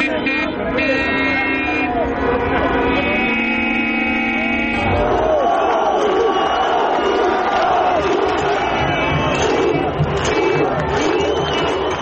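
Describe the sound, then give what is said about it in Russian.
A dense crowd in the streets of Yerevan, Armenia cheers and shouts steadily in jubilation after the prime minister announced his resignation, with loud sustained horn blasts sounding over the noise for the first few seconds before the roar carries on alone. “На улицах Еревана началось ликование.”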